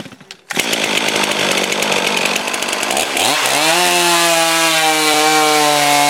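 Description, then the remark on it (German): A fuel-injected Stihl chainsaw roars loudly and steadily as it cuts a thin board off a round log, then shifts near the end to a higher, smoother whine as the cut finishes and the engine revs freely. No voices. “In dem Fall sägen wir jetzt ein dünnes Brett runter.”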